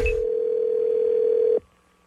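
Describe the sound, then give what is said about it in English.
A steady telephone tone hums for about a second and a half before cutting off abruptly, preceded by a brief click-like burst at the start; no one speaks. It is an outgoing prank call to a writer, placed on the Wake Up Call show. “So I am calling her to write a screenplay version of my book so that I can pitch it to Hollywood.”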